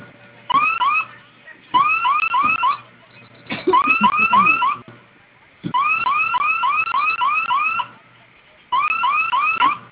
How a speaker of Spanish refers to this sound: Oprima el botón de la flamita durante 10 segundos, se va a activar la alarma. En cuanto suene, ingrese su clave para silenciar, por favor.